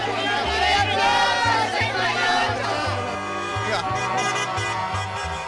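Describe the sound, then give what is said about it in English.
The people of the small town of Soweto, gathered in the plaza, chant and shout their winning lottery number together as cars drive through the streets honking, loud and continuous, over a rhythmic bass-heavy musical backing that pulses steadily underneath the dense babble. “Soon, the entire town was congregating in the plaza. People chanted their winning number as cars drove through the streets honking their horns.”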